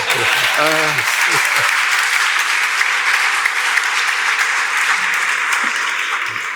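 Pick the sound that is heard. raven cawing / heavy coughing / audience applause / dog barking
audience applause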